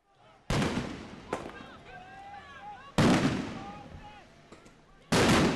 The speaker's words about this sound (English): Then police ordered people off the streets. And then there was gunfire.